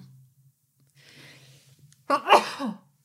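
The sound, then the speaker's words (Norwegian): A single loud sneeze: a soft breathy intake, then a sharp explosive burst that trails off quickly, with a low steady hum underneath. “Unnskyld, jeg måtte nyse.”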